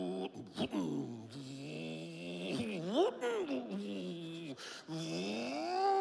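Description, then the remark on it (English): A voice imitates a car engine revving with a burned, slipping clutch while driving up a hill, a continuous droning hum that swoops up and down in pitch with a few sharp rises, fairly loud for about six seconds. “And so the engine roars, but the power's not getting to the back wheels.”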